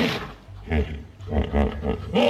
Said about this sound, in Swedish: Det låter lite som en häst. Ja, jo, det gör det ju faktiskt. Det är ju faktiskt för att det där är en häst. Det är ju flodhäst var det där.